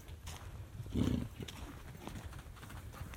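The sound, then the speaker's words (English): A single low, rumbling growl from an animal guarding a piece of meat on top of its enclosure rises briefly early on, then fades into a steady background hiss with faint rustling and no speech. “And he is probably going to growl at us because he wants nobody to come near.”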